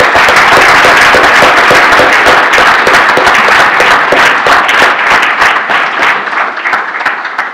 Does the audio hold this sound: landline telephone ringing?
no